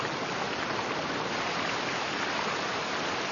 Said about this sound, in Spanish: Siguiendo el curso del río, llegamos a la cascada Vigar, un espectáculo natural, cuyas aguas nacen de un manantial subterráneo y caen sobre una hermosa roca cubierta de moho.